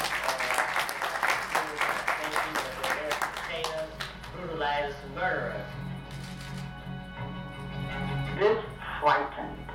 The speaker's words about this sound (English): Please not to, in our community, Huey P. Newton, give him a big hand clap.